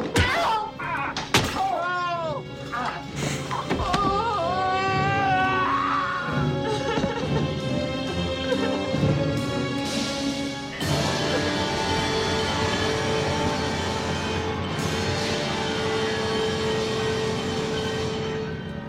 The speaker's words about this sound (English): That was the sound of Dr. Hayward knocking Ben Horn into the fireplace where he smashes his head and maybe dies.